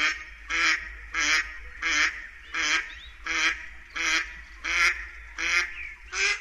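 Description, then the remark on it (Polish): A mallard duck quacks steadily, about ten loud, nasal calls in an even rhythm, with faint low background rumble and no talking. “Jej głos to doskonale znane wszystkim kwakanie.”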